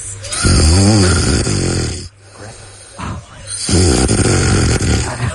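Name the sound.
man snoring loudly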